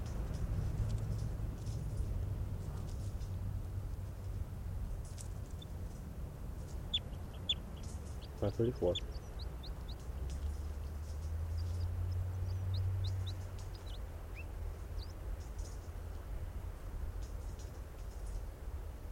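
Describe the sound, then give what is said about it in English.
A recording of the song of bird 534: short, high chirps and whistled notes come in scattered bursts over a steady low rumble, with a couple of sharper knocks partway through. No one speaks. “Recording now, bird 534.”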